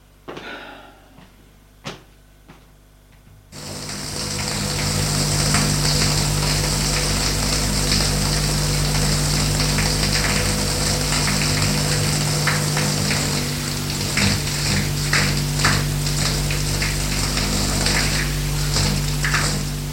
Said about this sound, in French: Après s'être levé, il sort de sa chambre pour aller dans la salle d'eau qui se trouve en face de sa chambre. Prendre sa douche.